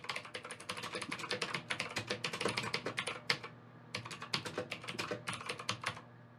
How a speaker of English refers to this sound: Okay, sorry, I'm just typing to the people who are people asking questions here.